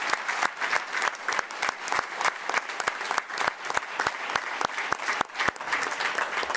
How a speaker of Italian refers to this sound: E l'altro grande musicista interprete dei …, …, a cui dedicherei un altro applauso.